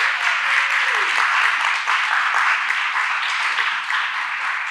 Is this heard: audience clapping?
yes